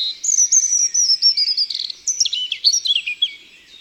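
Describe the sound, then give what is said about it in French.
A European robin sings a rapid, high-pitched warbling phrase of thin whistles and trills, varying in pitch, clear with no voices present. “Voici un rouge-gorge.”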